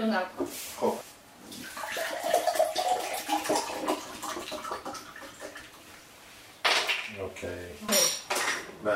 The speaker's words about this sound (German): Zuerst gießen wir das Bier in einen Topf, damit das Gas weggeht.